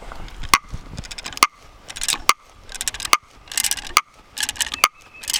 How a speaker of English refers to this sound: That clicking sound is caused by the friction between the stiff wood and the screw threads on the auger.